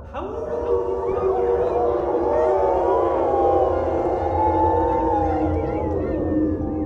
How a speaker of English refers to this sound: With that, the wolves, with their faces made of meat and death, started to howl.